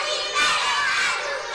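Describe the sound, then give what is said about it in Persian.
A group of children shout a loud, sustained hooray together, a bright crowded cheer that swells after a moment and holds steady for over a second. “حالا که حسابی سر حال و پر انرژی هستین، یه هورای بلند.”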